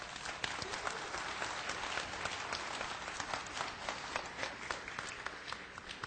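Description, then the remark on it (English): An audience at a church baptism breaks into sustained applause, many hands clapping in a dense, steady patter that holds at an even, moderately loud level for several seconds with no voices standing out. “Yeah, I think applause is appropriate.”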